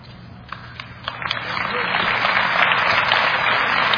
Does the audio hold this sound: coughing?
no